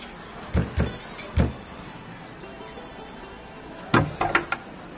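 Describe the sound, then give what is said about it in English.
Three separate knocks on the door of a home, a pause of a couple of seconds, then a quicker burst of four knocks, distinct with no talking. “Just knock on the door, Jim.”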